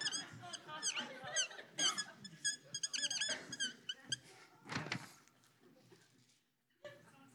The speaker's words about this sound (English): Pardon me? It is a squeaky marker. Do you want me to lick it?